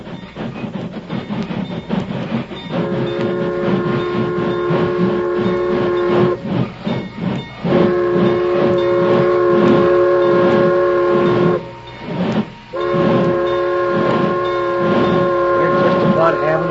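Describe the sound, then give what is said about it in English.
A steam train chugs loudly, its rhythmic huffing accompanied by three long, steady whistle blasts as it approaches and comes to a stop. “Keep out of sight, you fellas, till the train stops.”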